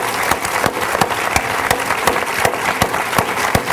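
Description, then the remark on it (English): Steady audience applause for everyone on a stage connected to the film Julie and Julia, a dense wash of many hands clapping at an even level throughout, with occasional sharper individual claps standing out from the crowd. “first of all, we have to applaud everyone on this stage for their roles in Julia's life and the movie, and then I will introduce them.”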